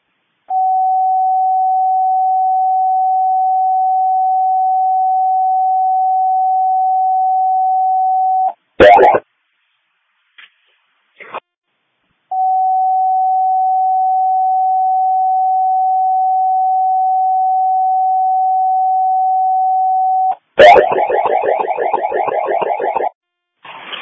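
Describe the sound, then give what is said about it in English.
Two long, steady, mid-pitched fire department radio paging tones paging the whole Dixon County District 1 Fire Department, each holding about eight seconds, separated by brief crackling bursts, followed by a raspy burst of radio transmission. “800, would you page the whole department and advise them of that, please?”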